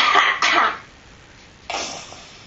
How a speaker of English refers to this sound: We're going to try to cough. Do you have stuff in your throat? I want you to cough in here. Cough, cough, cough. Cough as hard as you can.